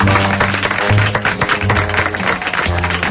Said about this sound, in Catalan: Bravo, poden aplaudir.